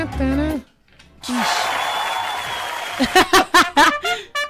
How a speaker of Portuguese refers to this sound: Esses aplausos eram quando o Neymar chegou na vila. Chegando agora.